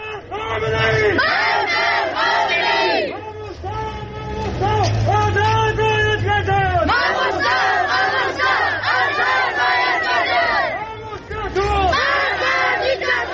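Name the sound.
protest crowd chanting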